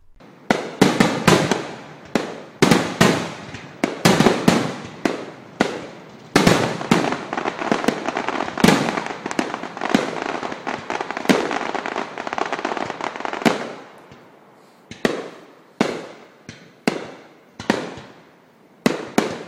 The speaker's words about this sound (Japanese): この後はステージショーお楽しみ抽選会、盆踊り、そして湖上花火大会が繰り広げられました。特に湖の上に咲く水中花火は圧巻でした。